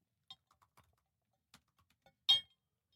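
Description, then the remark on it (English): Sparse, irregular clicks of keys being pressed on a new computer keyboard, with a louder clack near the end, otherwise quiet with no talking. “It's a new keyboard. That's why, you know, I kind of get used to it.”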